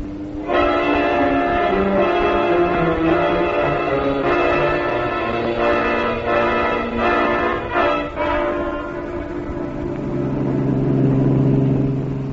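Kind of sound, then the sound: vehicle, car engine revving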